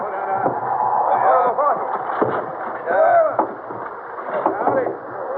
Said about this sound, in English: The wind sang through the rigging as the brilliant sails bellied out. The heavy oars strained in the waves as the boats plowed through the sea. 70 boats sailing in a great crescent, with Abdullah's boat leading the way.